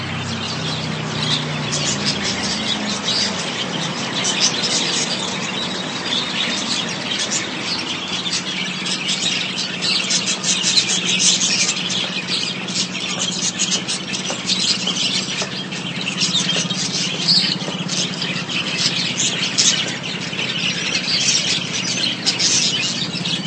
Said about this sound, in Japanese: 私今東京の門前仲町という駅の近くの、ここはですね、ペットショップ美鳥園、美しい鳥の園って書くペットショップ、ペットショップといっても鳥屋さんですね。鳥屋さんの前で今鳥見てます。